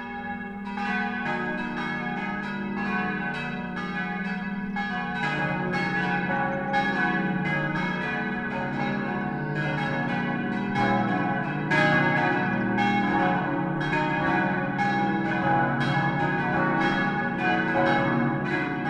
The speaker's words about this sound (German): Es ist 12 Uhr. Das Mittagsläuten kommt heute von der katholischen Pfarrkirche St. Peter und Paul in Oberammergau.